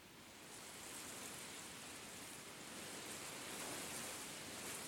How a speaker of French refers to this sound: Écoutez. Écoutez le vent autour de vous.